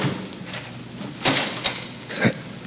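The outer door of a house swings shut, a few dull knocks and a clunk rising out of a steady hiss of background noise, with no voices.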